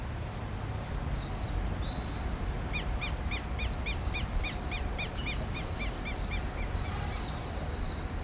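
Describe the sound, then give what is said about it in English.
A rapid series of high, bright bird calls echoing between city buildings in Sao Paulo, Brazil, repeats for several seconds, clearly audible above a steady low rumble of city background noise, with a few fainter chirps before and after. “In this density, each building echoes with the sound of their calls.”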